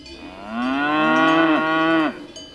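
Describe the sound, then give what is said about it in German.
A single long, loud cow moo, from cows in a pasture in Switzerland, rising slightly and then dropping off abruptly at the end. There is no talking, only a faint outdoor background. “Ein paar Kühe tummeln sich auf den Schweizer Weiden.”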